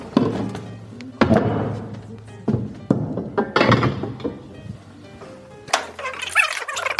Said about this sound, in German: Also, hier stehen noch 4 Stühle. Ja. Da hast du 4? Ja. Jetzt sind wir wieder auf Stühle rücken.